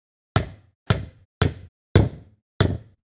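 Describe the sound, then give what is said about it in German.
Five loud, sharp hammer blows strike wood at a steady pace, each with a short resonant thud, as nails are driven to nail a door shut in a palace. No voices are heard. “Ich muss hier die Tür zunageln.”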